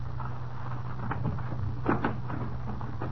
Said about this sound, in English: Ah, here we are. I'll knock.